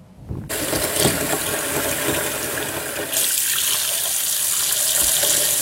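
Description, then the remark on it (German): Water gushes steadily from a tap into a bathroom sink, loud, starting abruptly and turning brighter and hissier partway through as the flow changes, while a homemade bath ball is tested in the sink and turns the water blue. No one speaks. “Also ich habe das jetzt gerade mal im Waschbecken ausprobiert und das Wasser färbt sich richtig schön blau.”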